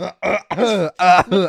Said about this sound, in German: Ja, warte, ich huste mal ganz kurz.